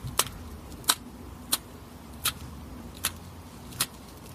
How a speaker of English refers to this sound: We pulled up some samples from one species of turtle, Cuara flavomarginata. Apologies for my Latin, it ain't great. Let's hear this first sample. That's kind of a clicking.